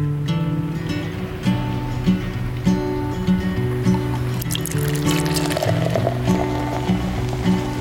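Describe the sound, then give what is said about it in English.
Coffee pours steadily into a cup for several seconds, a continuous trickle of liquid filling the vessel over a soft, rhythmic musical backing. “So with that, pour yourself a cup and let's get to it.”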